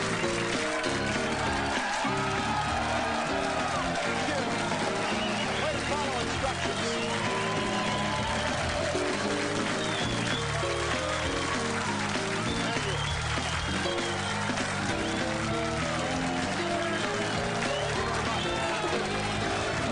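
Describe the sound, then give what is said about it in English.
A studio audience applauds continuously for about twenty seconds as Rush Limbaugh is introduced on his show, a dense, steady wash of clapping with crowd voices and cheering mixed in, loud and unbroken throughout. “Lively crowd.”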